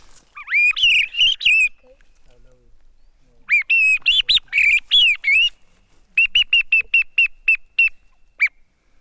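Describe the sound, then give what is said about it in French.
Handmade bird-call whistle, made by a Spaniard, imitating a blackbird's song: three bursts of bright, warbling, fluty phrases, the last a quick run of short repeated chirps, fairly loud with no talking. “Questo per il canto del merlo. Ça c'est le merle. Merle noir.”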